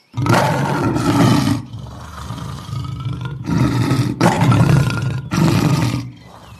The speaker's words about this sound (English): Lion takes a deep breath, clears his throat, and roars his loudest and most frightening roar ever.